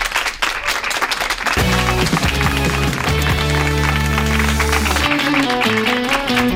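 A loud burst of dense crowd applause, its clapping rapid and steady throughout, soon joined by a booming musical jingle with deep bass notes that plays over it.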